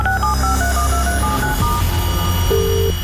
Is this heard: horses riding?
no